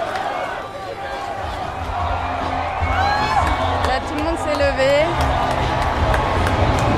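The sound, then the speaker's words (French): A large outdoor crowd claps and cheers steadily at the arrival of Donald J. Trump's presidential plane, which has just landed in front of them behind the stands, a dense wash of applause with scattered whoops and whistles, while voices talk and shout throughout. “Les gens viennent d'applaudir l'arrivée de l'avion présidentiel qui a eu lieu juste devant nous, derrière les estrades.”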